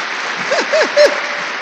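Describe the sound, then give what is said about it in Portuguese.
An audience applauds for the Lord at a church service in a steady, dense wash of clapping, with a few short rising-and-falling vocal cries cutting through the noise. “Dá aplauso para o Senhor, mamã.”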